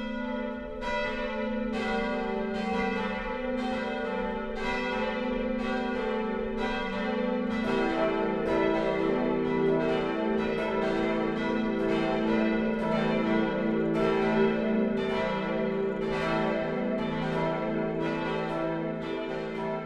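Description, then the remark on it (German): Several bells of the Catholic parish church of St. John the Baptist in Stadtlauringen, Lower Franconia, Germany, ring the noon peal together in a full, continuous peal, their strikes overlapping in a steady rolling rhythm with rich lingering tones, loud, with no voices. “Das Mittagsläuten kommt heute von der katholischen Pfarrkirche St. Johannes der Täufer im unterfränkischen Stadtlauringen.”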